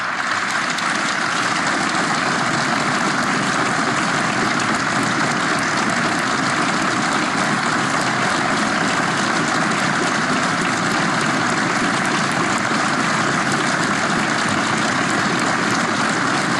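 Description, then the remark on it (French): Steady, dense applause from the staff of the Hôtel Matignon for Jean Castex during the handover of power, a continuous wash of clapping that holds at an even loudness for about sixteen seconds with no voices. “On vit cette passation de pouvoir en direct sur Europe 1 dans Punchline, avec les applaudissements encore une fois du personnel de Matignon pour Jean Castex.”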